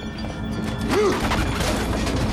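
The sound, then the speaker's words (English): A gramophone is smashed onto the floor aboard a submarine in one loud crash, followed by a couple of seconds of dense, sustained clattering and rattling debris, with no voices. “Nemo smashes the gramophone to the floor.”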